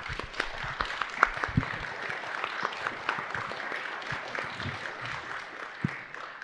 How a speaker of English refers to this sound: So I just want to thank you, and I will ask the audience to give you a round of applause.